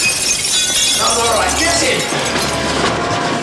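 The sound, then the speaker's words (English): A mirror shatters as a man dives through it: a loud burst of breaking glass, bright tinkling fragments scattering and clinking over a dense crash, sustained for a few seconds. “Driscoll catches Miles, then dives through the mirror.”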